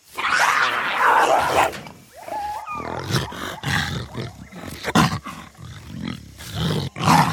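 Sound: jaguar roaring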